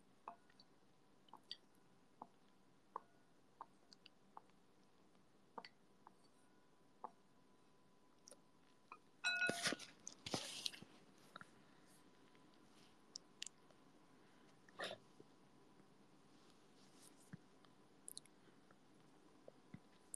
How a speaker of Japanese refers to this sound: どうですか？ちゃんと聞こえてた？すする音。